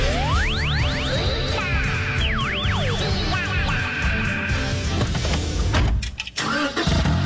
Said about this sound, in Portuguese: E o som de um carro novo ligando. Esse momento a gente nunca esquece, né?